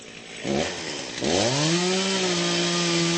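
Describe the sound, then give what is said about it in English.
A chainsaw cutting firewood on a winter day revs up loudly, dipping briefly before climbing into a steady high-pitched roar as it bites through wood, spitting sawdust, with no voices. “The chainsaw roars and chatters, spitting sawdust, a loud and fearsome force.”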